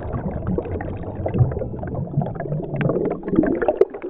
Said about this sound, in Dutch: We gaan naar zee. Of beter, in zee. Want we nemen een verfrissende duik onder water.